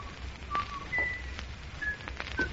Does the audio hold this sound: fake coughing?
no